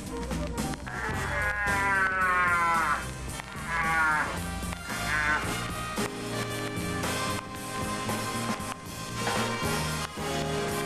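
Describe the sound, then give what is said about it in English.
A deep, resonant cattle call voiced through a horn rises in several drawn-out, wavering swells, loud, ringing over a steady low drone with no talking. “Do not prolong the last syllable because the call is not mooing.”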